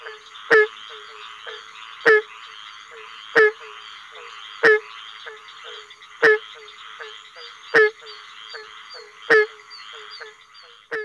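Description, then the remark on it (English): A barking tree frog gives its advertisement call: loud, hollow, bark-like calls, about eight of them at a steady pace roughly every second and a half, over a constant background chorus of other frogs or insects. “The advertisement call of the barking tree frog sounds like the hollow bark of a hound.”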